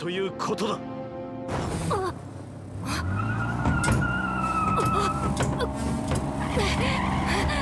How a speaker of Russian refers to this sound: Чего машину остановил?